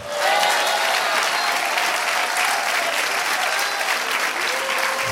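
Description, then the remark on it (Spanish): Sustained audience applause, a dense steady clatter of many hands clapping at an even loudness for about five seconds, with no one speaking over it. “Dale otro aplauso.”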